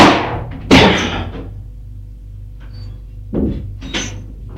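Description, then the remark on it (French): A heavy wooden crash as a closed bedroom door is forced open with a shoulder, followed by a quiet pause and then a couple of shorter rattling knocks of the door swinging or settling. No one speaks. “D'un coup d'épaule, il la défonce.”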